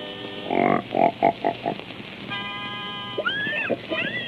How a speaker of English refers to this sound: Hey, wait till you hear my singing pig. First, I gotta get him in pitch.